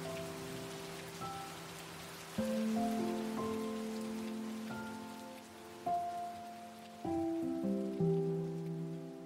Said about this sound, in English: All of this occurs while you take in the smell of fresh Nigerian rain. Petrichor.